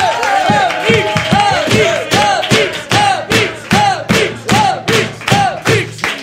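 A concert crowd cheers loudly, its voices rising and falling in a steady repeated chant with bursts of clapping on each beat, continuing without pause.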